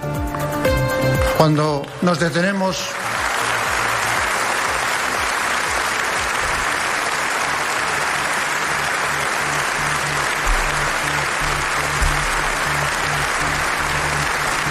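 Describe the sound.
A theatre audience breaks into a loud, sustained ovation, dense clapping that holds steady for over ten seconds after a brief voice fades out at the start.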